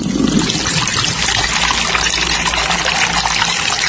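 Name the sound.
tap water running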